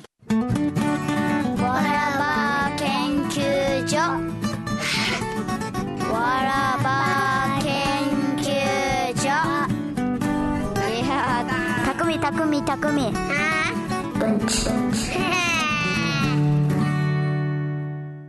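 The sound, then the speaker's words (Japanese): A bright, steady musical jingle plays for about eighteen seconds, with a warbling sung melody over full backing instruments, holding an even loudness before fading out at the very end. “じゃあ、ちょっとジングルです。”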